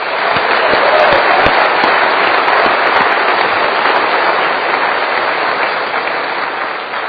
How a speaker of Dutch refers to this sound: En ik wil heel graag een applaus voor die mensen.